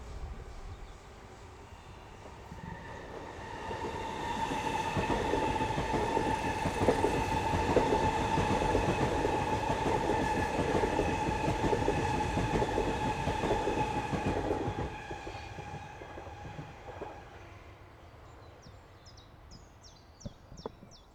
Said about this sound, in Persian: گذر قطار